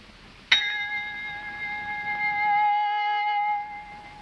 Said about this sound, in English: the shop bell over the door resounds in Alice's head like a knell